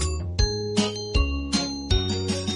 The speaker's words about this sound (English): The bell on the bus goes ding, ding, ding, ding, ding, ding, ding, ding, ding. The bell on the bus goes ding, ding, ding all day long.